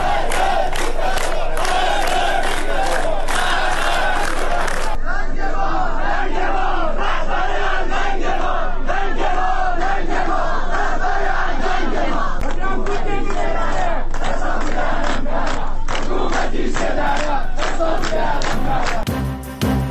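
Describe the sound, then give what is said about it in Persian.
A large crowd chants and shouts in loud, rhythmic bursts, voices rising together in waves with no pause throughout, at a protest held alongside the burial ceremony of Mahsa in Iran. “اعتراضات همزمان با مراسم خاکسپاری مهسا.”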